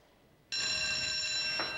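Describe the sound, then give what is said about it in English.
An alarm bell inside Alcatraz prison, sounded by a guard at a desk, bursts on abruptly after a half-second of quiet and rings loudly and continuously, a harsh, metallic, high-pitched clangor that holds steady until the end, with no voices. “A third, by a desk, reaches up to sound the alarm.”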